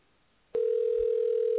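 After a short silence, a telephone tone switches on abruptly as a call is being dialed and holds one steady mid pitch, loud and unbroken until the end, with no voices.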